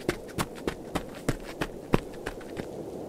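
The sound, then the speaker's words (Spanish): Quick running footsteps of a person running toward an entrance gate land in a steady, brisk rhythm, about ten sharp impacts over a few seconds, moderately loud over a low background hum. “Me acerqué al mueble, encendí las luces de la entrada, desenfundé mi pistola y salí corriendo, agotando todas mis fuerzas en mi intento por llegar al portón de la entrada.”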